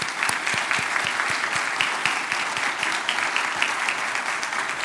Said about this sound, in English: Let's give the Verity Baptist Church family a round of applause.